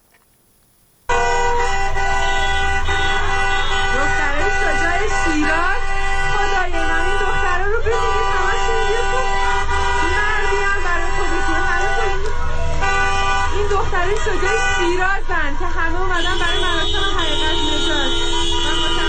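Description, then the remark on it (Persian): Many car horns blare at once in a sustained, overlapping chorus of steady and pulsing honks, loud, with crowd voices mixed underneath throughout, as citizens honk continuously in protest, joining people chanting slogans at a street protest gathering in Shiraz. “شهروندان دیگر هم با بوق ممتد خودروهای خود به اعتراض به آنان پیوستند.”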